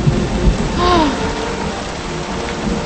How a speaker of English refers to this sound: In the pouring rain, she wears a raincoat over her colonial dress. Okay. You can do this. You can do this. She looks through the driving rain at the surrounding forest.